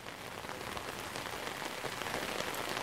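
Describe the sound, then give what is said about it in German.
Steady, heavy rain pours down continuously over an illegal landfill site, a dense hiss of countless drops pattering on a surface, with no voices or other sounds breaking through. “Auch bei strömendem Regen, so wie heute.”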